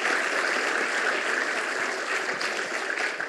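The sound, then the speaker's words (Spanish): A crowd applauds steadily at a school inauguration, a dense, even wash of many hands clapping at constant loudness for a few seconds with no voices over it. “Quiero darle las gracias y quiero darle que le demos un aplauso también por eso.”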